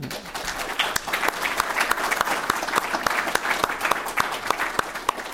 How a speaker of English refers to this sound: So please give these amazing folks a big applause.